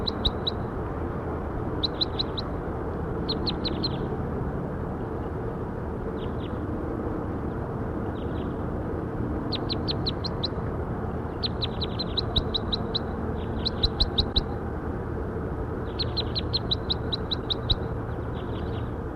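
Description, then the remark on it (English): Bursts of high, rapid chirping calls from a recorded bird, labelled bird 5-7, repeat throughout, each a quick cluster of sharp tweets, over a steady low rumbling background hum. No one speaks. “That was for 5-7. Bird 5-7.”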